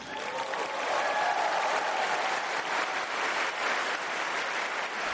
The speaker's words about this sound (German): Das Publikum ist aus dem Häuschen, klatscht sehr lange begeistert mit lauten Zwischenrufen.